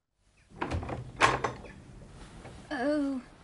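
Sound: door opening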